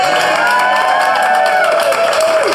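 Loud audience applause with cheering and whoops, a dense steady wash of clapping across the whole stretch, with a few voices rising above it.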